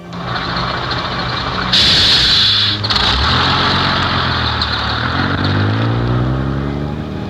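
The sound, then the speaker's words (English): A large bus engine rumbles steadily on a long bus ride, with a sharp hiss of air brakes partway through, then the motor's pitch climbs as it pulls away and accelerates. “It was a long bus ride, but it seemed short to me.”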